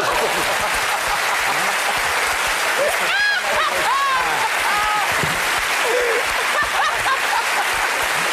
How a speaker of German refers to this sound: Ja, Sie können klatschen.